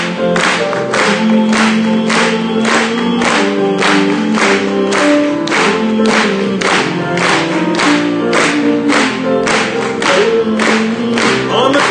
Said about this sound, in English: Let's clap it one more time.